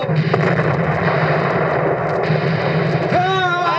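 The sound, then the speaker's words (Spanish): Heavy naval cannon fire booms amid a dense, continuous roar of battle noise, loud throughout, as the American frigate Constitution fights the British warship Guerriere southeast of Boston on 19 August, with a voice shouting near the end. “¡Los alcanzamos con nuestros disparos!”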